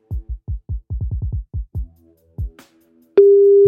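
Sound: telephone line tone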